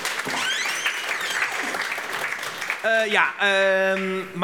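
A crowd claps in a steady, dense wash of applause for a few seconds, then loud sustained tonal notes, like a musical sting or cheering voices, rise over the fading clapping.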